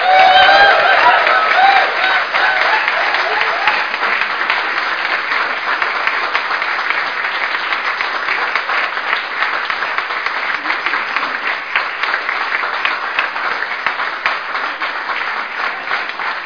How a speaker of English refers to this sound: Fantastic. Well, why don't we give this family a round of applause?